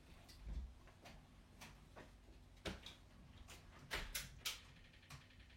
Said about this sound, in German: Tür zu, bitte.